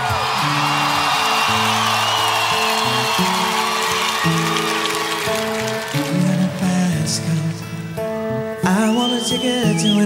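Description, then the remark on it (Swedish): Steady studio audience applause welcoming Petrina Solon fills the whole stretch, a dense wash of clapping over a bouncy musical theme, with a few whoops rising near the end. “Det är en jättestor applåd till ingen mindre än Petrina Solon!”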